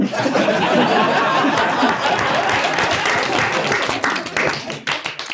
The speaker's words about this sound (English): Well, I nearly joined in with that applause